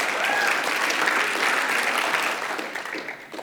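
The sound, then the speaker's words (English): A room full of people breaks into steady applause, dense rapid clapping that holds strong for a few seconds before gradually thinning and fading toward the end. “I know, can we clap?”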